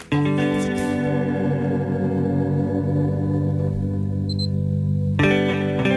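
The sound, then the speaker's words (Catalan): Sustained, layered orchestral-style film music plays steadily and fairly loudly, with a brief high electronic beeping cutting in near the end before the chords swell again. No voices. “El que sentim és la banda sonora sense efectes digitals de rellotge, no sé on ha sortit això,”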